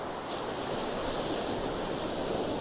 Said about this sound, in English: Just listen to the sounds of the Pacific Ocean.